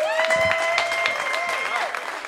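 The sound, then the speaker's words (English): An audience at the Carrymore Jazz Festival in Katona, New York, claps steadily for a jazz quartet, with a sustained, bright whooping or whistling cheer riding over the applause before sliding downward near the end. “So we need to clap, cheer, stomp our feet, maybe even stand up”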